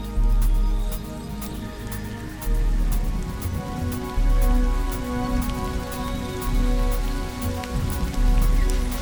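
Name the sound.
rain falling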